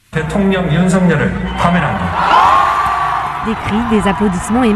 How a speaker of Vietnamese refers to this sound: Những tiếng hò reo, những tràng pháo tay và cả một đội kèn đã vang lên. Một số người biểu tình khóc nức, số khác thì ôm lấy nhau vì vui sướng.